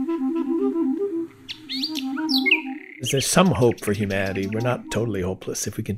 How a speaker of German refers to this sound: Für den Experimentalmusiker war es jedenfalls sehr wichtig, wie jedes Jahr, auch 2020, wenn auch dieses Mal virtuell und transatlantisch, Klarinette zum Gesang einer Berliner Nachtigall gespielt zu haben.